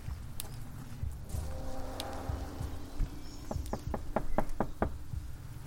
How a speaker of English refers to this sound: We reach the front door, and we knock on it. Let's try.